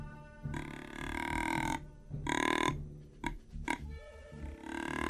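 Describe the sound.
Deep, guttural deer grunt call blown on a grunt tube extended almost the whole way to imitate the oldest, biggest buck, a 250-pound deer: a long drawn-out low grunt, then a shorter one, two quick clipped grunts, and another starting at the end.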